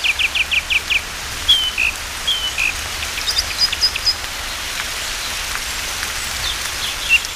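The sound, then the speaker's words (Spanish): Steady heavy rain from a storm hisses throughout in a forest in Asturias, Spain, while a thrush sings, opening with a quick run of five repeated notes, then scattered clear whistled phrases over the downpour. “Pero eso no es suficiente para que los pájaros se calenten y un zorzal sigue cantando bajo la lluvia.”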